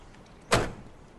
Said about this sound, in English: He opens the truck door for her.